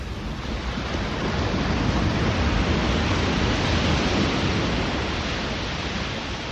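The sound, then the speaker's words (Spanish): A steady, full-bodied roar of ocean surf washes over a beach, continuous, with no distinct pauses between waves and no voices. “Entonces me puse a oír el mar.”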